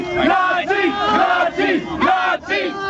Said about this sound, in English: the crowd chants Nazis, Nazis behind them, right?